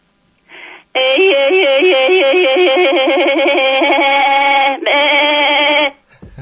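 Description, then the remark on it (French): A human voice sings a goat-style yodel in a rapid, bleating warble, flipping quickly between low and high notes to mimic a goat, loud for about five seconds after a short opening note. “Parce que je vais vous faire un résumé assez rapide du yodel à la chèvre, comme ça par le son vous allez entendre que c'est proche de la chèvre.”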